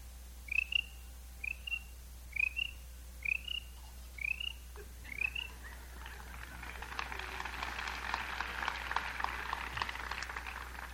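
Six short, evenly spaced chirps ring out, then a dense, shimmering buzz of crickets chirping together swells and keeps going. No one speaks.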